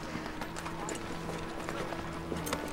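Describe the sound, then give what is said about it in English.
Horse hooves clip-clop in a steady, even rhythm over a low background hum, the clatter moderately loud throughout, as a rider mounts a horse and rides away. “He mounts his horse and Marion watches him ride away.”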